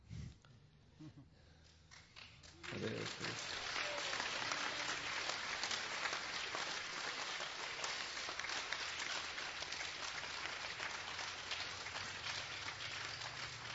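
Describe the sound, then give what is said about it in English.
An audience claps: after a few seconds of quieter sounds, steady, dense applause begins and continues at an even, moderate level to the end, with no talking. “Hare Krishna, thank you for your very polite applause.”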